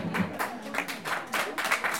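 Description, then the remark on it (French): An audience applauds, many hands clapping in a dense, crackling patter that swells in a few bursts over two seconds at a moderate, steady level, with no talking. “Oui, ça s'applaudit, merci.”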